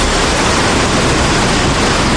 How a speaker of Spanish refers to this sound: Este es uno de los sonidos del día. Un nuevo desembalse del pantano del Guadiloba. Es el segundo en 4 días. El desagüe ha comenzado a las 9 de esta mañana, según informa el Ayuntamiento de Cáceres, y no parará hasta conseguir bajar la cota del 83%.